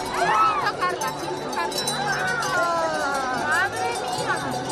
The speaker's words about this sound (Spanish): El de más de 1.000 ovejas merinas y 100 cabras retintas que han transitado este domingo por las calles del centro de la capital en la 28 edición de la fiesta de la transhumancia.